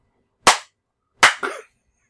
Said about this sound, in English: Clapping doesn't really work. Well, it works to fucking stay silent.